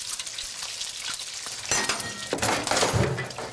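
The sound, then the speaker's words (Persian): Eggs sizzle steadily in a frying pan, then a loud metallic clatter rings out as the pan is angrily thrown onto a gas stove, with a second clank and crackling sizzle continuing after. No speech. “امیر با عصبانیت ماهیتاب رو روی گاز پرت می کنه.”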